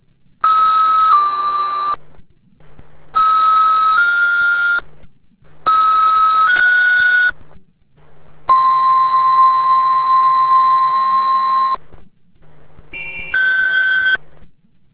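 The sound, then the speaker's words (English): A series of loud electronic tone bursts, a fire dispatch general alarm requesting station coverage, with steady two-pitch tones repeating in short blasts and one longer held tone, separated by brief gaps of low radio hum. “The fire alarm announcing a general alarm requesting station coverage.”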